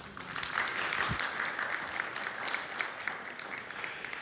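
An audience claps steadily, a dense patter of many hands at a fairly even loudness that carries on without a break for several seconds, with no one speaking over it.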